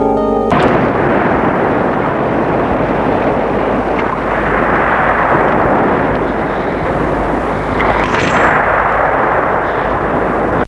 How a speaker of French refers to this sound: une tempête fait rage.